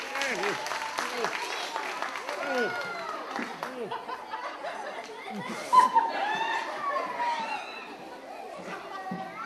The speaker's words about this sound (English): Give him a huge round. Let me go. A huge round of applause, if you please.